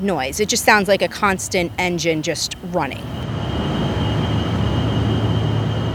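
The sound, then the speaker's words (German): A steady, high-pitched droning whine of diesel generators at a data centre, which start up when it is especially hot, running continuously, heard beneath a man's voice for a few seconds and then alone, constant and fairly loud. “Der Lärm, Sie hören ihn, so ein heulendes, hohes Geräusch, wie ein Flugzeug, wie ein Motor, der immer läuft.”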